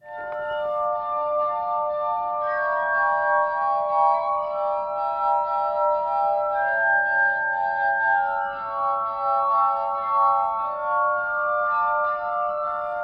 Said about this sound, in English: this is a clip of a guy named … playing the glass harmonica